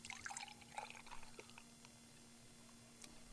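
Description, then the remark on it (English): Devil's Pale Ale, a strong 6% beer from Great Lakes Brewery in Toronto, is poured into a glass: a steady bubbly gurgle with bright fizzing and small splashes, fading to a softer hiss of settling foam. No one speaks. “And pour a little of that into here.”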